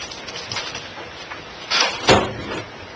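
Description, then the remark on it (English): A door slides and bumps shut, a brief scraping rush followed by a firmer thud, over a steady low background hum with no talking. “Should I shut this door a little bit?”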